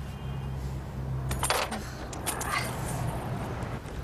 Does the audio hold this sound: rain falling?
no